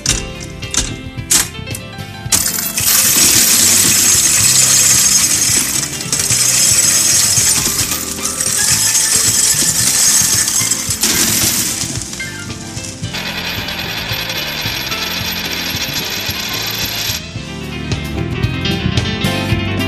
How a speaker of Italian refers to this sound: questo era il primo versamento di monete che indica la prima rubrica dello scrigno del mattino di oggi